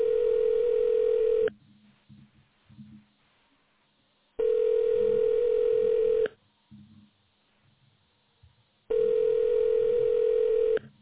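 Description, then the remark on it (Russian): A telephone ringback tone sounds three times while a call is being placed and the person called has not yet answered, each steady buzzing burst lasting about a second and a half with long silent gaps between, with faint low murmurs in the pauses. “Я продолжаю дозвон. Пожалуйста, подождите немного.”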